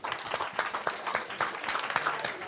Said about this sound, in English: please get a round of applause, please, to Ginny, Aoife and Derek